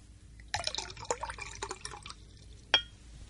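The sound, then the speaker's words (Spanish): Coffee is poured from a pot in a brief, uneven splashing stream lasting under two seconds, followed by a single bright clink of china or glass, with no voices. “Aquí está la cafetera y el azúcar. Sírvase usted mismo.”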